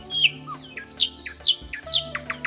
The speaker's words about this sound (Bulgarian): Тогава славеят запя на дъба и гласът му звучеше като вода, бълболеща от сребърно гърне.